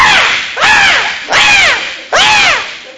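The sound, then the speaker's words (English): A voice imitates a shrieking, screaming hungry baby with four loud, harsh wails in quick succession, each rising then falling, with no other talk. “shrieking, screaming, you know how they are.”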